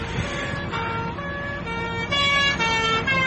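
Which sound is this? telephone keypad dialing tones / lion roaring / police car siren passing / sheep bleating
police car siren passing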